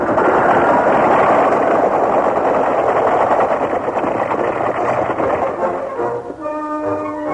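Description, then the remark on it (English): A stampeding herd of longhorn cattle thunders by in a loud, continuous rumbling roar of pounding hooves that eases slightly toward the end, where a brief higher-pitched call rises over it. “But finally, they were barely clear of the stampeding Longhorns when the herd thundered past.”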